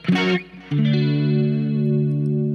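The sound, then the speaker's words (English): An electric guitar played through a clean effects patch with a light crunch: a quick picked attack, then a sustained chord ringing out steadily, fairly loud, with no voices. “It was Natural Clean, but I changed it to Oatmeal because Natural Clean didn't have any distortion at all. But this one has a little bit of crunch.”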